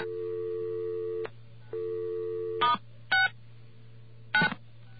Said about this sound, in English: Okay, now we're outside. Doesn't sound like we did anything differently. Now we're going to dial star 69. And it hung up our phone. Well, that's the BAI phone system.